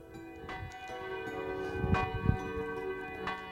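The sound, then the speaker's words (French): A large bell of a neighbouring convent tolls at 6 in the morning in slow, regular strikes about every second and a half, each blow leaving a long, humming resonance that overlaps the next, with no voices. “c'est la cloche d'un couvent voisin qui réveille Clovis”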